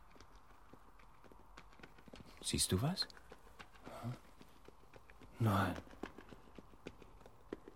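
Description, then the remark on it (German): Steady clip-clop of a horse's hooves plodding along at a walking pace, fairly faint, continuing throughout while two people exchange a few brief words. “Ein Hobbit-Pony oder ein Pferd.”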